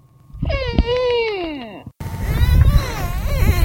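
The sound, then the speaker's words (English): Dolphins in a marine park, recorded in the middle of the night by underwater microphones, make eerie, whale-like wailing calls: long harmonic moans sliding up and down in pitch, a first drawn-out cry, then a louder, rougher stretch of warbling tones, with no talking. “a bunch of dolphins in this marine park were making strange noises in the middle of the night.”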